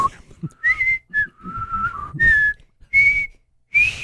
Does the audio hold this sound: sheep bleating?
no